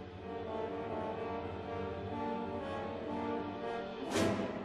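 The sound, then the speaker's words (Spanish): Orchestral music depicting a wolf snapping its jaws as it tries to eat a fluttering bird: loud, sustained brass-heavy chords hold steady, then a sharp, bright accent bursts out near the end. No voices are heard. “Estas son las dentelladas que da el lobo.”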